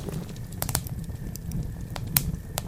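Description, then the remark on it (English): A campfire crackles and pops steadily over a low, rumbling roar of flames, with sharp snaps scattered irregularly throughout and a faint steady tone in the background. “I'm gonna break up the fire, if that's okay.”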